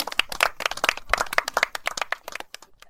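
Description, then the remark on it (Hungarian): A short burst of audience applause: many overlapping hand claps forming a dense, crackly patter that stays steady for a few seconds, then thins out into a few scattered claps. “Szuper, köszönjük, egy tapsot ez azért megjelent.”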